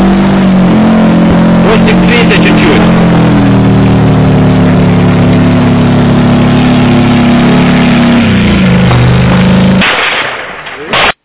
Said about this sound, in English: That's up close. That's a tank, Ukrainian tank up close. That's the engine.